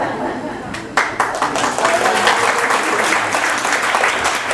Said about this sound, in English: Give her a clap.